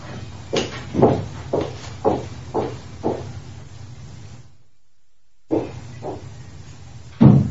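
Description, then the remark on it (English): Someone repeatedly tries a locked door, producing a steady series of rattling thumps, then a brief silence, a few more jolts and a final louder bang, with no talking. “My door's locked. Sorry for that.”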